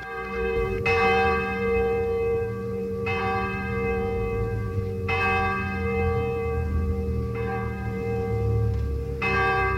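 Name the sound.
church bell ringing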